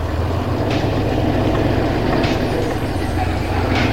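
A delivery van's engine starts and the van rolls toward a gate, rumbling steadily at a constant, fairly loud level, with a deep low drone and a broad hiss of road noise, plus a few brief higher hissing bursts.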